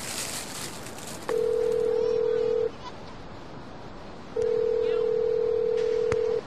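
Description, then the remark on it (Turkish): A telephone call being dialed: two long, steady electronic tones from the line, separated by a short pause, fairly clear over a faint background hiss with no talking. “Telefon neredeydi?”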